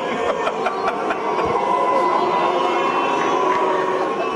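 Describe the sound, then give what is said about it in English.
An audience applauds in a dense, steady wash of clapping that holds at an even loudness throughout, with a few sharper claps early on and murmuring voices mixed in. “You can't first applaud like hell and then shout.”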